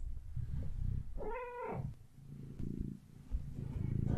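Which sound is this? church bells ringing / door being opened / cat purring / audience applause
cat purring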